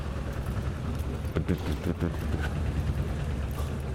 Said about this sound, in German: Na toll, Der Trecker fährt also hier auch auf der Straße mal lang.